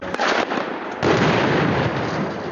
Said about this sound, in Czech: Na sve strane puca. Lupaju prozore, pa uleću autobuse, kanapom se spuštaju iz helikoptera